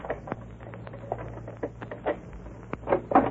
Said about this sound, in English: Well, let me see now. Yes, it's a common, ordinary back door lock. I'll try this key.